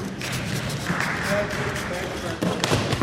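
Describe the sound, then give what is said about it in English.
A dull, heavy thump of a person falling off a skateboard onto their backside, followed by a short burst of scattered clapping from the onlookers, with murmuring voices in the background throughout. “You hear that thump and then the applause from the guys there? That's me falling right on my backside.”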